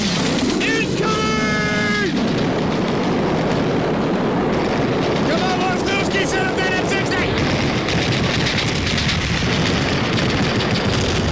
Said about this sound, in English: Because as we walked through the camp, I heard a sound that suddenly brought me back to reality. The sound of my enemy weapons opening up!